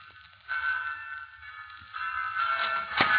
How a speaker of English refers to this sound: Henry, dear, the bells have started. You have a sermon to preach, you know.